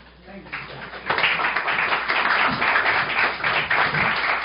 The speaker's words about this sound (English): You know, to applaud before a message is an act of faith. To applaud during a message is an act of hope. And to do it afterwards is an act of charity. And I appreciate that applause. I thank you for that.